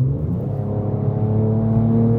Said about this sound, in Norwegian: Kunne høre den deilige V6-en. Kan jeg si jammere? Det riktig? At den litt sånn klaget, den lyden ja. På en sånn murrende V6-er? Det litt annen lyd enn det i en rekke 6-er.